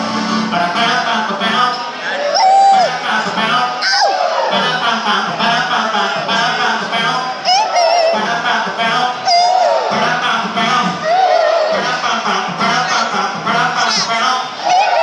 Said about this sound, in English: You guys just have to do the scream afterward to make it authentic